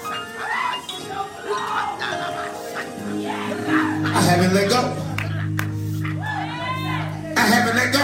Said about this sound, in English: There is a praise in this place. Respond to him. There is a shouting in this place.